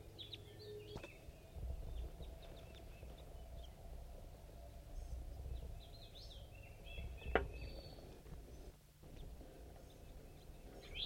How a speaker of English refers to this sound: Birds are chittering above. One bird went. Now the other one. Another one's going down.